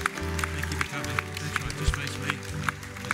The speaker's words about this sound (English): I want you to just make your way to the front right now. Church, let's give them a clap as people come.